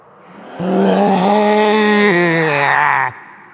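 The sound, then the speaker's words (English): A human voice imitates a ghost leader's roar of rage: one loud, sustained, growling cry held for about two and a half seconds, its pitch dipping slightly midway before cutting off abruptly. “The ghost leader let out a roar of rage.”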